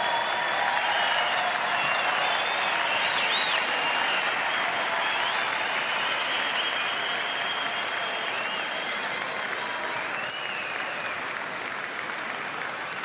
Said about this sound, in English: Mitch, a big applause from the hometown crowd. A special moment for you, back-to-back player of the series awards for yourself.